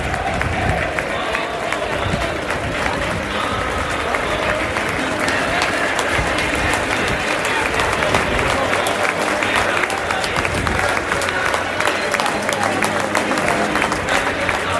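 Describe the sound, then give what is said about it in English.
A large football crowd at an Everton match applauds steadily throughout, as Everton players and Frank Lampard come over and Anthony Gordon claps the fans. It is a dense, continuous wash of clapping with a faint murmur of voices, loud and even from start to finish. “Anthony Gordon in particular is spending a bit of time clapping the fans.”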